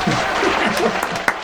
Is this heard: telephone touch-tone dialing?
no